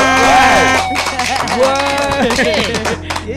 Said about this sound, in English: Oh, man. Give her a clap.